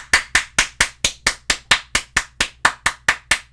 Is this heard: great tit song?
no